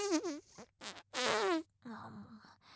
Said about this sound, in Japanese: なんか面倒くさそう。おならで興奮すんのからかうだけでよかったのに。